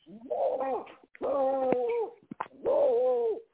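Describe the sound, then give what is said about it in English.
A dog gives three drawn-out, whiny vocal calls in a row, each under a second long with a brief pause between, fairly loud with no talking. “Who's that, a dog? What kind of dog is that?”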